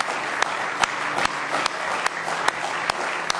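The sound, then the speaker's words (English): A crowd at a religious service applauds steadily as a hand clap of praise to the Lord, with sharper claps landing together in a regular beat about twice a second over a dense wash of clapping hands, loud throughout. “Let's give him a real good hand clap of praise tonight if you love him.”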